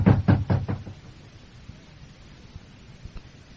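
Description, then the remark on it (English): Four heavy, rapid, loud thuds of pounding on a door, then a quiet stretch of low background noise with a faint bump or two. “Break the door down.”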